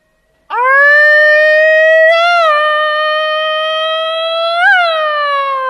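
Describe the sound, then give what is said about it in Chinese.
A voice imitates a police siren with one long, loud, unbroken wail, its pitch mostly steady apart from two brief upward swells. “您听吧，警车来了。”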